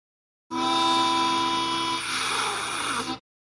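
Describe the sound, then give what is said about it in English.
A loud, sustained horn-like blast resembling a train horn, holding steady for nearly three seconds before cutting off abruptly, with no talking over it. “That sounded like a train. That's the best you can do, is just like a foghorn, like...”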